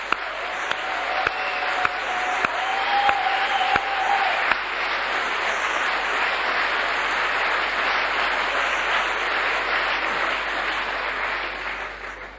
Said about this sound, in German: Also ein Applaus an alle Mütter.